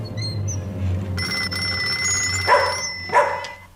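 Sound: telephone ringing at night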